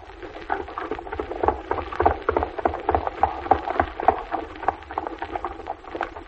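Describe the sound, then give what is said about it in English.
Horse hooves clip-clop in a quick, steady rhythm, with a continuous woody clatter and rumble underneath and no voices. “Right up there ahead of us, riding on that runny little black horse.”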